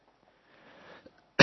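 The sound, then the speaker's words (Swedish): A sharp inhaling breath is followed by a sudden loud cough that bursts in right at the end, with no talking around it. “Jag har en liten hosta. Så att jag kommer att hosta lite.”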